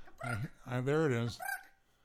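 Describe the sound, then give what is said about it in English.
A person vocally imitates an acorn woodpecker call: a short rising yelp, then a long wavering nasal note, ending with a brief higher squawk, all fairly loud with no other sounds. “This is the acorn woodpecker.”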